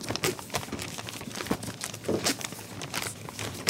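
Rapid, continuous rustling and crinkling of newspapers being folded quickly at the Tribune newspaper, with sharp crisp bursts as sheets are handled and folded, fairly loud, with no voices.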